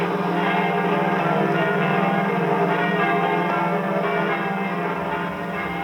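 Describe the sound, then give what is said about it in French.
Church bells in Paris ring continuously in a dense, overlapping peal, loud, their resonant tones blending into a sustained wash of clanging with no voices present, announcing the entry of French and Allied troops into Paris at the Liberation. “messieurs les curés sont requis de faire sonner les cloches de leurs églises”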